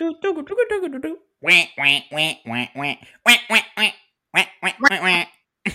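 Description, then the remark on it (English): A short talking voice gives way to a run of nasal, buzzy quacks from a kazoo, about ten bursts in uneven clusters, fairly loud, imitating a duck. “Okay, because, I mean, I usually end up getting stuck on the kazoos doing the quack, quack, quack, quack, quack.”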